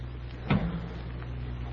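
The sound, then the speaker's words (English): A single short clunk of a maroon car's door being pulled open, followed by faint shuffling as someone slides into the front seat, over a steady low rumble, with no voices. “I pulled the door open and slid into the front seat.”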